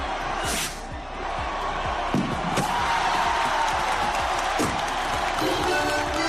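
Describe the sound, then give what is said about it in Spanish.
A huge festival crowd of about 45,000 people in the Plaza del Ayuntamiento of Logroño, La Rioja, roars and cheers in a steady, dense wall of noise at the opening rocket of the fiestas mateas, with a few sharp bangs from the firework rocket cutting through at irregular moments. “Bueno, este es el sonido, como escuchas, de ese inicio de las fiestas mateas en la capital riojana, en Logroño.”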